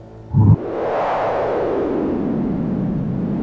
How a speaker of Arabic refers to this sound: كان صوت رياح. اوكي هو صوت رياح. اوكي العرب تسميه هذا عزيف الجن.